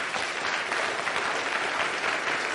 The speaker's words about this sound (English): I want you to give this young couple a big round of applause. Okay?